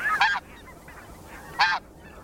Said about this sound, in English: While the calls of white-feathered snow geese are more sharp and nasal.